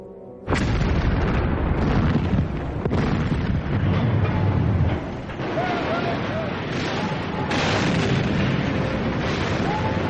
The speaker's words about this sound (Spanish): Con las ráfagas de las ametralladoras enemigas pasando por encima de ellos, taca, taca, taca, taca, nuestros fusiles automáticos Bren empezaron a escupir fuego.